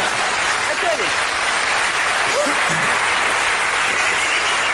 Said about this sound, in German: Klatschen Sie ruhig.